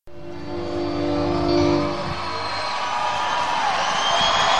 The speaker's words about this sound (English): Yes, but then they're off the stage. And, of course, you had about 12,000 people there going crazy as they were yelling for more.